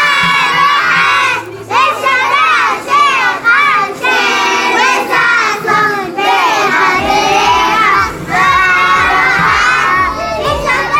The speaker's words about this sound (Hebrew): ילדי גן בית רחל מבית הספר תורה וחינוך באי ג'רבה שבתוניס חגגו עם הצוות את ל"ג בעומר באופן מיוחד. הילדים הוכנסו לתוך מערה שהצוות הקים כדי שיבינו את המושג מערה. הילדים שרו בהתלהבות גדולה את בר יוחאי.